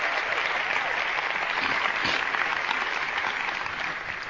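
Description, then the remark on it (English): An audience applauds steadily as a woman who has been healed comes up to join the speaker, a dense wash of clapping hands that holds at a strong level for several seconds before easing slightly at the end. “Why don't you give her a round of applause as she comes up?”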